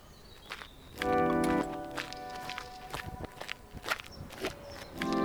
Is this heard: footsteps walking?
yes